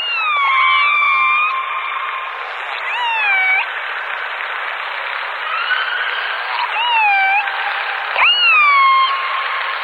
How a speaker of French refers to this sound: Les baleines. Je dis bien les baleines, parce qu'il faut déjà identifier l'espèce de baleine que l'on écoute. Car oui, il y a ce joli chant qui nous plonge immédiatement dans les fonds marins.